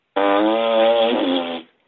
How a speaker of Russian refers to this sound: Пукаю.